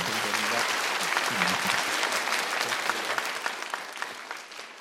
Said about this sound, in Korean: 마지막으로 정말 감사드리면서 이쯤에서 박수와 인사로 보내드리도록 하겠습니다. 감사합니다.